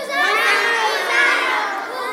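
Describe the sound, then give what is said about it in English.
A large group of young people aged 0 to 20 shouts "Hosanna" together loudly and continuously, a dense, sustained wall of overlapping cries like a cheering crowd of kids, energetic throughout. “all I want you guys to do is shout as loud as you can, Hosanna, Hosanna. And you're going to keep shouting Hosanna”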